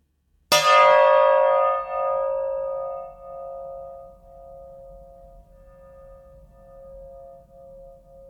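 A bell is struck once with a bright, clanging attack, then its steady metallic tone hums on and slowly fades, wavering slightly as it rings out. No voices.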